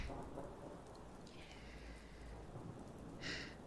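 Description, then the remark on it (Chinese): Steady rain hisses throughout while low thunder rolls and rumbles beneath it, fairly quiet, with a brief brighter splash of rain near the end. “那不是叛军的声音，是打雷而已。”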